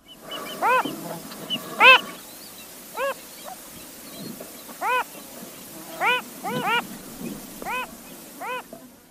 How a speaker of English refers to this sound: Like many fathers, the male phalarope tries to sing with usually more enthusiasm than melody.